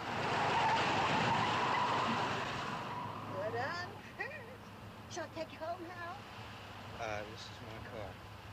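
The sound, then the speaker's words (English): A hearse roars loudly for a few seconds, then its tires let out a series of sharp, wavering squeals as it skids, trailing off under a steady engine rumble. “Hey, this whole thing handles well. Ever drive a hearse”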